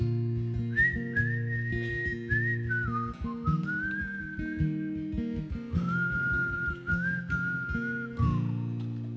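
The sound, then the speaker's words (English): A man whistles a slow, sustained melody live over steady instrumental backing, the clear whistled notes gliding between pitches and holding long tones across the whole passage. “And he had the courage to whistle.”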